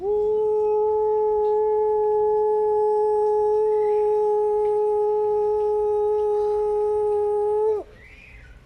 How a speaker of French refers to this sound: Alors là, on a vu de la lumière dans les yeux de ce vieux pirate. Il a attrapé sa corne de brume et...